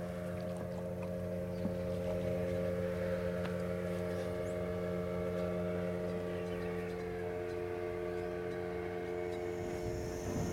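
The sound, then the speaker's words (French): The outboard engine of a motorized pirogue (canoe) on a river in French Guiana drones steadily and loudly throughout, its even mechanical hum unbroken, with faint water and wind noise underneath and no voices. “Donc, malgré le prix que ça coûte, les gens se sacrifient quand même pour avoir toutes les familles qui sont en couple ont une pirogue et un moteur.”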